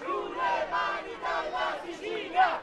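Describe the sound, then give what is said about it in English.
A large crowd of protesters, including public sector workers, at a rally in Sicily chants slogans against the central government in unison, loud voices rising and falling in a steady, rhythmic pattern of repeated shouted phrases. “The slogans at this protest rally are directed at the central government.”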